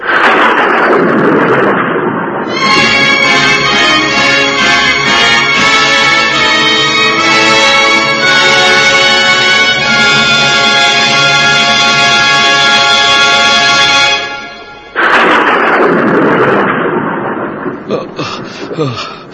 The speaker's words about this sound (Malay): Kita masih belum bisa menemukan tempat berteduh. Hujan deras sekali begini.